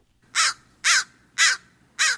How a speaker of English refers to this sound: If you live in an urban area, you might have noticed large groups of crows congregating in noisy roosts.